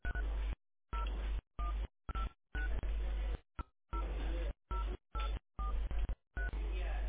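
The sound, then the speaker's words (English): A string of about ten telephone keypad tones entering a 10-digit NPI number, each a short beep separated by brief silences, entered at an uneven pace over a thin, phone-line sound. “Please enter or say the 10-digit NPI.”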